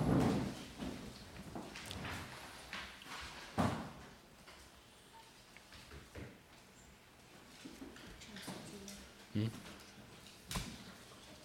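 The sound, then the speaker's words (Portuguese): A door being opened during a committee meeting to let in a journalist waiting outside: a few sharp latch clicks and soft knocks spread over several seconds, with faint shuffling and low indistinct murmuring in the background. “Antes de passarmos ao ponto 2, peço que seja aberta a porta.”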